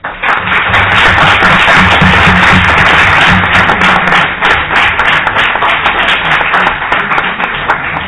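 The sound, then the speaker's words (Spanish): A crowd applauds steadily to thank a guest who has joined them, a dense wash of many hands clapping at once that stays loud throughout before easing slightly toward the end, with no voices over it. “Y nada, le damos un aplauso.”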